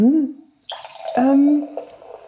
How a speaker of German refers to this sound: Und, darf ich dir nachschenken? Ja, natürlich. Natürlich. Hört ihr dieses Plätschern dieses wunderbaren Champagners?